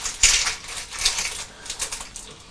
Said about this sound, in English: Concentrating very hard with your scissors, aren't you? Do you like snipping? Snip, snip, snip, snap.